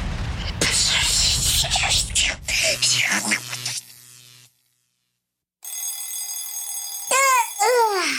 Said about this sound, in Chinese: 闹钟好吵哦！ 丁丁睡眼惺忪，他怎么也起不了床。他转过身，按掉闹钟，抱着枕头又回到了梦乡。